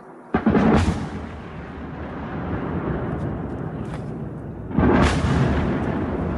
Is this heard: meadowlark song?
no